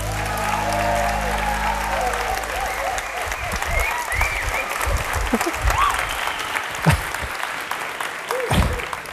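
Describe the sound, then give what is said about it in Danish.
The audience of a broadcast, seated in a huge hall called Badekarret, breaks into steady, sustained applause, a dense wash of many hands clapping at once that holds loud throughout, with a few cheers and voices rising through it. “Som I kan høre, så er der tilskuere til dagens udsendelse.”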